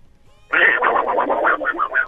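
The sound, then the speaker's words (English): A person imitates the voice of Donald Duck, a quick burst of garbled, raspy, buzzy, squawking syllables that runs for about a second and a half, loud. “talk like Donald Duck.”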